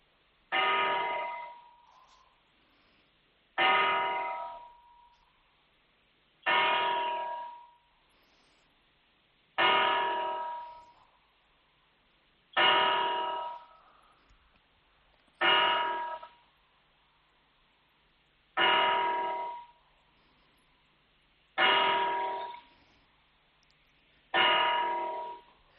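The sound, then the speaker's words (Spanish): The bells of La Giralda cathedral tower in central Seville, Spain, strike 9 a.m.: nine tolls evenly spaced about three seconds apart, each deep resonant strike ringing out and fading before the next, with no talking. “Pues así han dado las 9 de la mañana en La Giralda, en pleno centro de Sevilla.”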